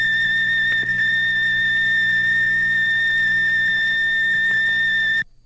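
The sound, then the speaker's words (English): A radio signal from the Explorer 2 satellite: a steady, piercing high-pitched whine layered over a low hum and faint static, holding unchanged for about five seconds before cutting off abruptly. “The third one you hear will be that of our own Explorer 2.”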